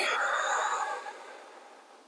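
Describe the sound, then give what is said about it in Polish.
A slow, deep inhale and exhale, a soft airy rush that starts strong and gradually fades away over about two seconds, with no talking. “pozwól powietrzu opuścić twoje ciało. I głęboki wdech i wydech.”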